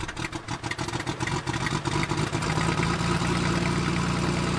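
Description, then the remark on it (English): Zeppelin airship engines rumble to life as the throttle is pushed forward in a hangar, starting choppy and uneven before settling into a steady, loud mechanical drone with a deep hum. No voices are heard. “All right, engines up, throttle forward, and here we go!”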